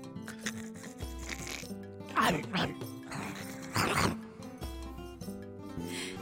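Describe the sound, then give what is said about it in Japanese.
A person imitates a toy poodle's high, yappy barks to say happy birthday, letting out a couple of short bursts of yips over a steady low background hum. “な、誕生日おめでとうってはい、ポイク、あ、トイプードルで言ってごらんほ。”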